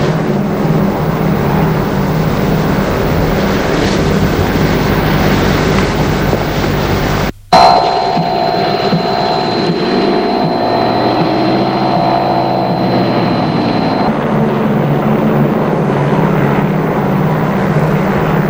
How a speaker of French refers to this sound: L'avion a atterri à l'aéroport Charles de Gaulle.